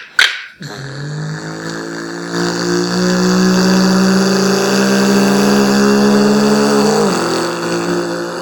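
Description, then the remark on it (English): A voice imitates a high-revving F1 race car engine, a sustained buzzing drone that climbs steadily in pitch over several seconds, then briefly drops as if shifting gear before tapering off. “So, okay, you know what, let me start with the engine sound of an F1 car.”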